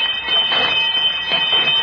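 A school bell rings steadily and loudly for a couple of seconds, a continuous metallic jangle with a bright, high-pitched buzzing tone and no voices.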